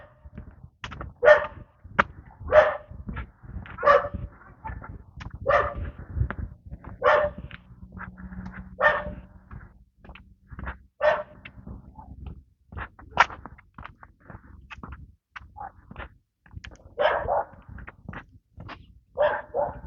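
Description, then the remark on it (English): A dog behind a fence barks at a husky on a leash across the street, over and over in a steady, insistent rhythm, sharp yaps coming roughly every second, with a low background hum and no talking. “Husky on a leash across the street with the dog behind the fence, taking objection.”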